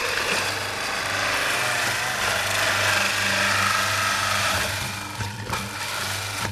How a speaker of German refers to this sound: Eine Live-Parmesan-Käsereibe in der Cremerie am Hechinger Eck. So, jetzt werden die Parmesanstücke da reingesteckt. Jetzt muss ich mein Mikrofon dran halten.